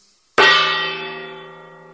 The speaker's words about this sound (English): So he came up with the idea of a gong. I kind of like that, too.